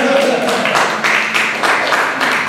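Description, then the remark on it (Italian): A crowd applauds loudly and steadily, a dense wash of many hands clapping at once, with some voices calling out underneath near the start. “Vai, palla l'applauso, dai!”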